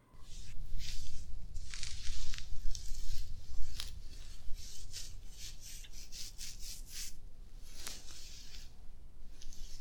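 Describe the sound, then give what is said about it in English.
A chair scrapes and drags across the floor in a series of rough, gritty rubbing strokes over a steady low rumble, with sharper rasping bursts near the end. No one speaks. “I can pull your chair like this.”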